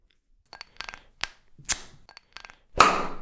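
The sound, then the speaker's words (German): A bottle of Fever-Tree tonic water is opened: a few light clicks and taps of handling, a short hiss, then a loud fizzy rush of escaping gas that trails off slowly. “Ja, und auf jeden Fall, jetzt machen wir uns ein Fever Tree auf.”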